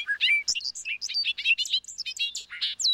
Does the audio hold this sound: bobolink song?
yes